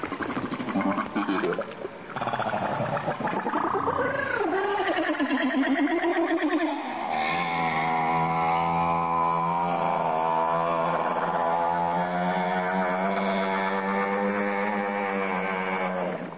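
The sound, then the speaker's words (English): Underwater humpback whale social calls: a dense, continuous mix of sweeping whistles, rising and falling moans, and gravelly jabbering squeals layered over one another, fairly loud and echoing. “those are a much more diverse repertoire of screams, whistles, jabber”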